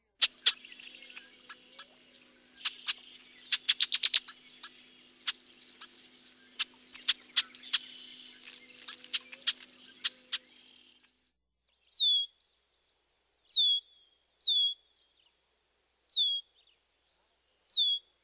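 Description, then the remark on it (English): A bird gives a burst of sharp, irregular chuck notes over a faint low hum, then five evenly spaced, high-pitched, downslurred sear calls ring out clearly on their own. “Also listen for a chuck note, as well as a high-pitched sear, sear.”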